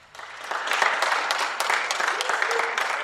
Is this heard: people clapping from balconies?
yes